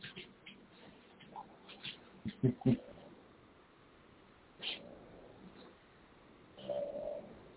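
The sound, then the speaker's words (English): Two lovebirds cooing softly, a few low, breathy coos in short bursts with a longer, hollow coo near the end, set against quiet background noise. “Two love birds.”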